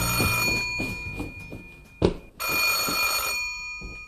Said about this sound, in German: Da klingelte plötzlich das Telefon.